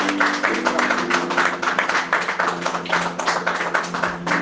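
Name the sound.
audience applause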